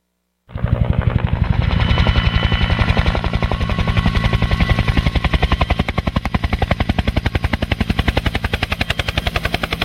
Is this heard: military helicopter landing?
yes